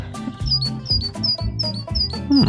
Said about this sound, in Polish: To jest sikorka bogatka. Na pewno wszyscy kojarzą.